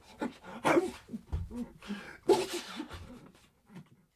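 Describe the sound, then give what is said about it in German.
Someone sneezes loudly twice in quick succession, with sharp explosive bursts separated by sniffly, breathy snorts and intakes of air. Nobody speaks. “Er nieste fröhlich weiter, während meine Klientin darauf beharrte, den Mann in ihrem Wohnzimmer nicht erschlagen zu haben.”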